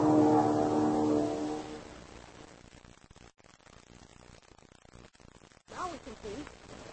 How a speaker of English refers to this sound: Listen, I hear a plane.